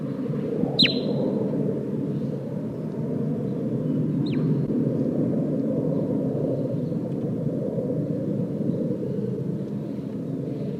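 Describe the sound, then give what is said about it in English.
A bird, identified as bird 8, about 3.5 meters from the recorder, gives two soft, brief toots a few seconds apart, each a short high note sliding downward, over a steady low rumbling background noise. “Pointed at bird 8, giving soft toots.”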